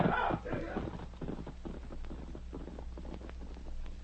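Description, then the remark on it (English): Horse hooves clip-clop in a quick, steady rhythm, the hoofbeats moving off over a low rumbling background with a brief burst of noise at the start. “All right, let's go, Frank. Jay is waiting with the horses.”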